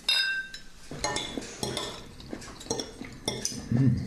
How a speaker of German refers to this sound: Da schmatzen sie.